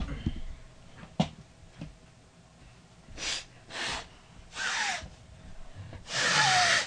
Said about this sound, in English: I have the worst sinus problems in the universe. I have to blow my nose. Hold on.